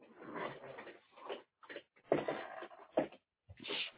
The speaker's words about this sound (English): Y'all hear that old chair of mine? Good gracious, that thing's squeaking and hollering.